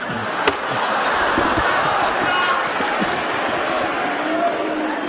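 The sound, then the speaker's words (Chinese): An audience at a xiangsheng (Chinese crosstalk comedy) show applauds the performers in a dense, steady wash of clapping that holds at a fairly loud level for the whole five seconds, with a few sharper individual claps. “谢谢朋友们的鼓励。哎，啊，通过您的掌声啊，听得出来。”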